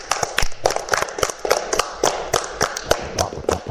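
Applause from a small group for a schoolchild contestant: a dense patter of overlapping claps with sharper individual hits standing out, steady and moderately loud for a few seconds, with no voices.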